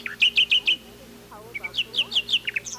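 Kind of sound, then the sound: bird, nightingale song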